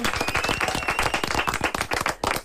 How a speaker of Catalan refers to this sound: Fort aplaudiment!